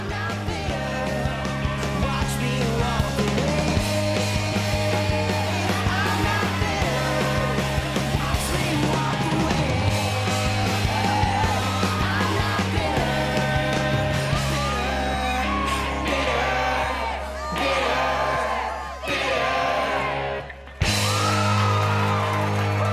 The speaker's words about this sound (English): At the gig, the crowd is going wild.